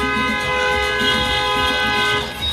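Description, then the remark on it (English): Several car horns from a caravan of cars blare together in a long, unbroken chorus of overlapping tones, loud and steady, with a low rumble of traffic underneath and no voices. “I started to hear all of the honking.”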